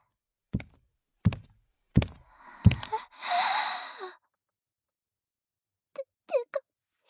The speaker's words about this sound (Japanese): 奥の扉が、開いて。